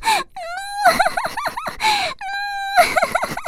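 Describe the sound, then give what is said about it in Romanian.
A dog named Cârnăcior whimpers and cries, long high whines sliding in pitch, broken by quick choppy sobbing yelps and breathy gasps, repeating in two anguished bursts. “Plânsul lui făcu ca domnișoara Ceaina și Coco să alerge acolo din sala tronului.”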